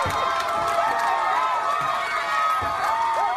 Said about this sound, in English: A crowd of protesters in Durham, North Carolina, tied a cord to a Confederate statue and toppled it to the ground last night to loud cheers.